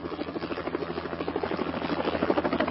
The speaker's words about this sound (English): After his bags are unloaded, the helicopter lifts into the air and sails off into the sunset.